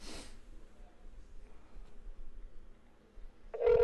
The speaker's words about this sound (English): All right, we're making another call.